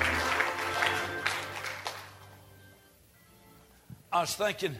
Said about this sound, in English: Oh, clap your hands and shout hallelujah. Praise God. Thank you, Lord Jesus.